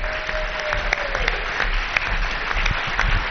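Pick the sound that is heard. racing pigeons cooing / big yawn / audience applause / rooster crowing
audience applause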